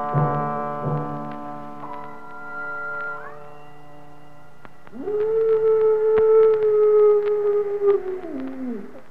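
A long, mournful wolf howl passing by the Curvatorium, sustained and wavering in pitch, followed by a second louder howl that rises, holds steadily, then slides downward and fades. No talking.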